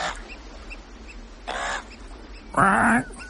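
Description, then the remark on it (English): Loud, shrill piping calls from an oystercatcher come in three separate bursts, the last one strongest, ringing out over a low, steady background rumble. “Oyster catcher. Cleep, cleep, cleep, cleep, cleep, cleep, cleep.”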